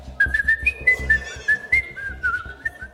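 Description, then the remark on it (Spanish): A person whistles a song melody, a clear, steady melody of connected notes with brief breaks, loud and alone with no talking. “Lo digo, entonces, va tengo, a ser que silbar, tengo que silbar y.”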